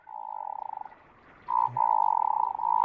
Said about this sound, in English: Which song do you like the best of those mergansers? Oh, I like it of the hooded merganser. Yeah, I do it too. It does not sound like a duck at all.